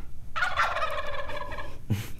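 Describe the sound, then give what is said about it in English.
A turkey gobble sound effect, used to signal a wrong answer in a call-in quiz, rings out loud: a rapid warbling burst lasting about a second and a half, followed by a short thump-like sound near the end. “If you were wrong, you're going to get the bird.”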